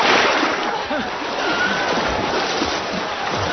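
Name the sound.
splashing water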